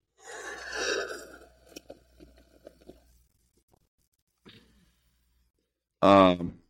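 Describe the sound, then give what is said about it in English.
Sipping water from a cup, a brief slurp followed by several small gulping and swallowing clicks, a short pause, then a relieved voiced exhale. “Let me take a sip of some water and maybe that'll help.”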